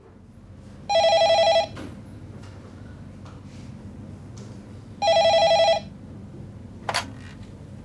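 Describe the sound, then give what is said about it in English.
A telephone at the HealthLink phone line rings twice, each ring a short electronic trill with a long pause between them, fairly loud over a low background hum, followed by a brief click. “Hello, HealthLink phone line. Can I help you?”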